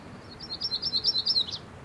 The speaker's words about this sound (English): And that was a myrtle warbler.